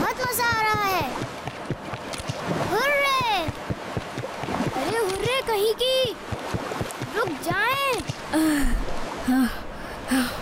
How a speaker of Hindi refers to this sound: सांस फूल गया।